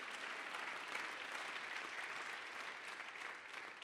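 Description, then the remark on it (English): An audience claps steadily, many hands blending into a dense, even patter that holds at a constant loudness throughout, with no voices standing out. “Oh, somebody clap your hands if you believe that glory is on the way.”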